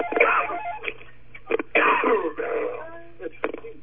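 A person coughs and clears their throat several times in uneven, harsh bursts, fairly loud, with short gaps between fits and no talking.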